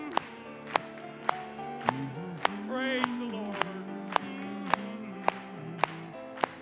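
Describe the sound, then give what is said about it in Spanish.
An audience claps along together in a steady rhythm, about two claps per second, sharp and crisp, keeping time beneath a sustained sung Spanish-language hymn melody. “Vamos a aplaudirle.”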